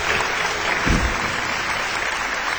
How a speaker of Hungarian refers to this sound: Na, ne tapsoljatok már annyit.